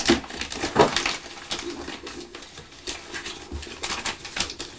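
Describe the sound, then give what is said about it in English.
Wrapping paper is handled and fastened with a little piece of sticky tape, giving a steady run of crisp crinkles, rustles and small clicking ticks with no one speaking. “but if I put a little piece of sticky tape there.”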